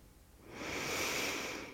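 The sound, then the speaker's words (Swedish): A single deep, slow inhale during a guided breathing exercise, building into a steady airy rush that holds for over a second; no one speaks. “Ta ett djupt andetag in.”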